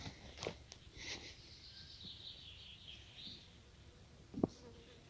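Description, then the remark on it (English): A small pet bird chirps softly while trying to eat headphones, a run of thin, high twittering notes, punctuated by a couple of sharp clicks or taps near the microphone. “Bird trying to eat my headphones.”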